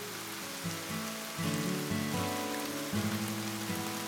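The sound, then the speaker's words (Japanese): Steady rain patters on a surface, a continuous soft hiss throughout, with gentle low musical tones shifting underneath. No voices. “嫌だったこと、辛かったこと、悲しかったこと、痛かったこと、悔しかったこと、恥ずかしかったこと、苦しかったこと、雨はすべてを押し流して去っていく。”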